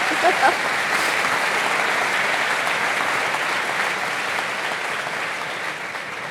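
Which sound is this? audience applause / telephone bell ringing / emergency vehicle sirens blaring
audience applause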